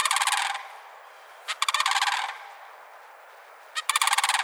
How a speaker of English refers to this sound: The birds are anything but subtle. On more than one morning, I've heard the arrival of these cranes, the slap of their substantial wings and the echo of their almost prehistoric calls across the wet pine savannas near the Gulf Coast.